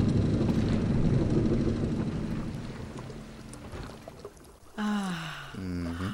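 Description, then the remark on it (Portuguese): A boat engine rumbles steadily, then winds down and cuts out as it is switched off, leaving a brief lull before voices begin speaking. “Quero sentir o barco a balançar. Mulheres grávidas têm gostos complicados. Ué, Eurico! Sim, pois! Desliga o motor!”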